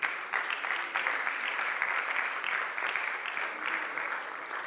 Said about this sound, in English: It's in Jesus' name we pray. Can you give him a hand clap tonight?